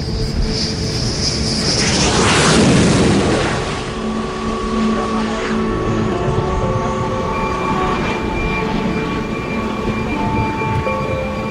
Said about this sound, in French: Il s'appelle le Hawkeye, l'œil de faucon. Cet appareil américain à deux hélices est surmonté d'un impressionnant radar qui le recouvre en grande partie. Il y a deux Hawkeyes à bord du Charles de Gaulle.